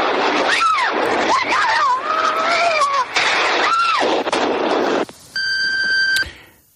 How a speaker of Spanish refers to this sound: Diez explosiones, 4 minutos, 192 muertos. En tan solo 240 segundos se había producido el mayor atentado hasta entonces de la historia de Europa.